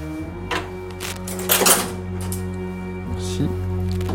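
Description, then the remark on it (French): Scissors snip through tissue during a dissection in a handful of crisp cuts at an irregular pace, with a brief cluster in the middle, all over a steady low electrical hum. “J'ai bien une paire de ciseaux.”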